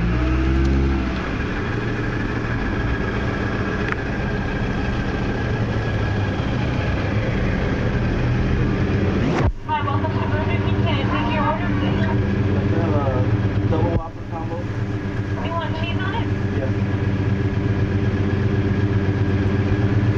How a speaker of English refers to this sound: Quite the car there. Yeah. Listen to that car.